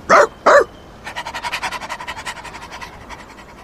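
A dog, Scamp, in a park gives two sharp, loud barks, then settles into a quick, rhythmic run of panting breaths that gradually fades. No one speaks.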